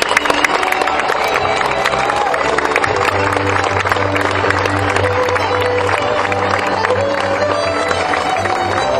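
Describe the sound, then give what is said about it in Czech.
A crowd applauds steadily for the whole stretch, dense clapping with scattered cheers, while music plays underneath with a low sustained bass tone. The applause is for a folk group of stárci from Staré Město, Mařatice and Jarošov. “Zatleskejte jim.”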